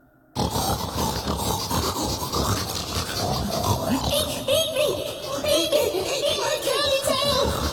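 A crowd of pigs grunting and oinking together, a dense, continuous jumble of snorts and squeals that starts abruptly and stays loud throughout, with no talking.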